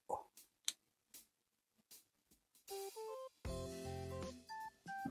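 A smartphone being operated: a series of sharp taps and clicks, followed by a run of short electronic beeps and tones in a stepped pattern, with no one speaking.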